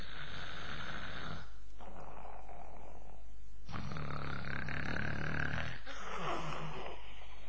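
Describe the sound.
A storyteller loudly imitates the character Li Kui snoring like thunder: three long, rasping, rumbling snores drawn out one after another with short pauses between, with no spoken words.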